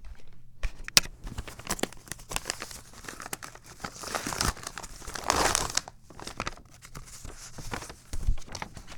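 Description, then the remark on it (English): A paper birthday envelope is handled and torn open, giving off a run of irregular crinkling and rustling bursts with a few sharper crackles, moderately loud and with no voices over it. “How do I open this?”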